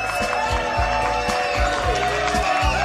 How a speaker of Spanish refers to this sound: Menos mal que son gratis los aplausos, ¿no?